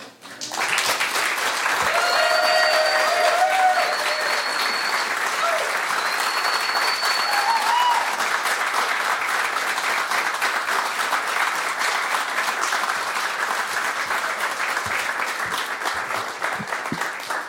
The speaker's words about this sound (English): You can clap more for Damika. Clap more for Damika.